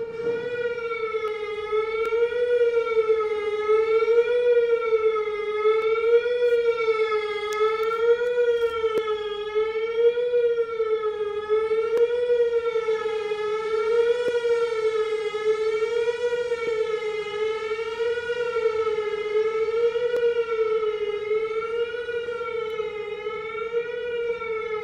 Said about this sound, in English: That was a YouTube video entitled Collected Sirens 2.